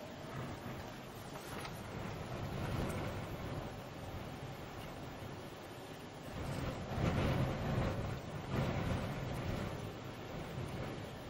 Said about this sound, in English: Listen, there's another storm here.